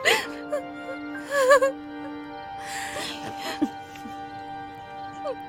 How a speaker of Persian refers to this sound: لطفا گریه نکنین، اینا تقصیر شما نیست.